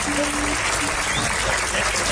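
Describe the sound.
Steady, dense audience applause for the performers as the show closes fills the whole two seconds, a continuous loud wash of clapping with a faint voice and a brief tonal hum underneath.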